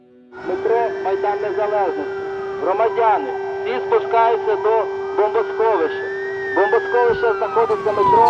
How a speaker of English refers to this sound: So from inside the city, we've just been hearing air raid sirens almost constantly.